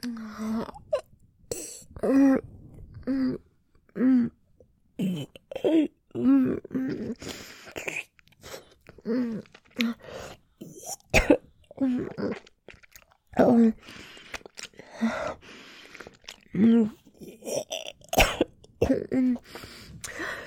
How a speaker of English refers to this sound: I press myself down, and when I start to gag and choke and cough, you hold me in place with a loving firmness.